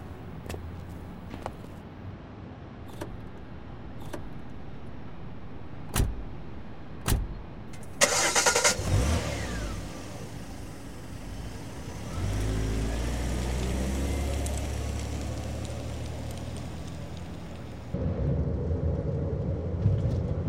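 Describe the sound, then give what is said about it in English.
A few sharp clicks, then a car engine cranks and turns over. It settles into a low, steady rumble that builds as the vehicle pulls away. “Please, my car is here.”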